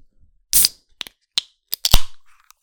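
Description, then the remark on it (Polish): A bottle of chai cola bought from Żabka is opened: a short burst of hissing gas, a few small clicks, then a sharper crack that rings out briefly. No voices. “Czekajcie, wezmę sobie łyka, bo mam tutaj takie picie z żabki, kupiłam sobie, więc muszę wziąć łyka, ale czekałam, żeby je otworzyć na tym podcaście, żebyście usłyszeli ten piękny dźwięk lata, moi drodzy.”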